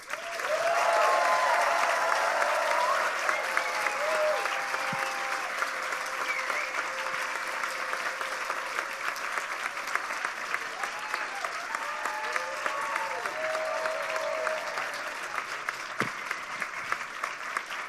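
Sustained applause from a sizable audience, a dense steady clatter of clapping lasting the whole stretch with a few brief voices and whoops rising through it.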